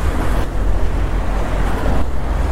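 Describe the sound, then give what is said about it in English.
Steady roar of traffic at a busy road junction, a continuous low rumble of engines and tyres with no clear gaps, and nobody speaking. “Okay, it's quite a busy junction this.”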